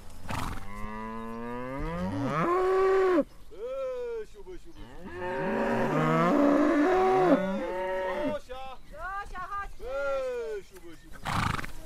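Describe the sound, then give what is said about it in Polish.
Several cows moo loudly in long, drawn-out, low calls that rise and fall in pitch, sometimes overlapping one another, with short pauses between the lowing. “Chodźmy do krówek, zobaczymy, jak one się tam mają.”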